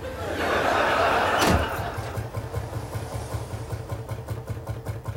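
A car engine cranks and sputters with a rough, uneven chug, following a burst of noise and a sharp knock, as if it's struggling to turn over. Fairly loud, no talking.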